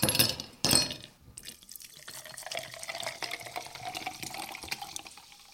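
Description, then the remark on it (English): Sparkling mineral water is poured into a glass, a couple of sharp fizzy bursts followed by a steady bubbling pour whose pitch rises as the glass fills. No one speaks. “I have sparkling mineral water.”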